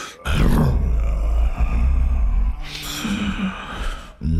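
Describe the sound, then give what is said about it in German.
A loud, growling roar rumbles through the low end, sustained for several seconds with a rough, breathy edge, likely a voice imitating a lion, roaring back louder than before. “Da brüllte es noch lauter als vorher zurück.”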